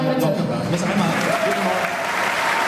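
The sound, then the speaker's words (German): An audience claps steadily for a few seconds, a dense, even wash of many hands at constant loudness, with a faint voice murmuring underneath. “Erstmal mal kurz klatschen, dann sind wir auch ein bisschen”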